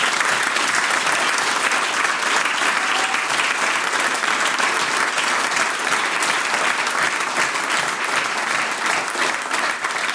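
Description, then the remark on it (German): Loud, sustained applause from a large audience in a packed, sold-out Heuriger barn, the Stadl Ehrenhöfer: a dense steady wash of clapping hands lasting the whole stretch without letting up, with no voices rising above it. “Und so klingt's, wenn die Leute applaudieren, da im ausverkauften heurigen Stadl.”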